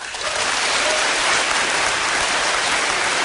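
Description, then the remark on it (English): An audience claps steadily in a dense, continuous burst of applause lasting a few seconds, fairly loud, with no voices rising above it, voting by applause in a poll on which statement they think is the fake. “So, you applaud when you think... For the one that you think is the fake.”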